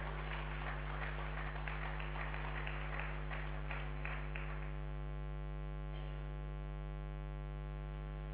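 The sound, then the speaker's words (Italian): An audience applauds for the Lord, a dense patter of many hands clapping for about five seconds before fading out, all beneath a steady, prominent low electrical hum that continues alone afterward. “Facciamo un applauso al Signore, gloria al suo nome.”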